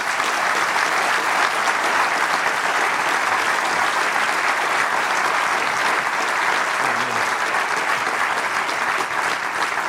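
Steady, dense applause from an audience as historian Rainer Pöppinghege of Paderborn University is called onto the stage, a continuous wash of many hands clapping at even loudness for about ten seconds, with no voices standing out.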